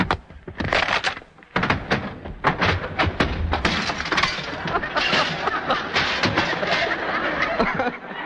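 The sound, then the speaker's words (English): A staged fight sound effect made by a sound man for a hero fighting a burglar: a rapid barrage of hard punches (fist on open palm, blows to his own chest), heavy thuds, chairs thrown, fruit baskets broken and glass smashed, with a dense clatter continuing loudly throughout. “He punched the open palm of his hand with his fist, he hit himself on the chest, threw several chairs around, broke some fruit baskets, and finally smashed some glass”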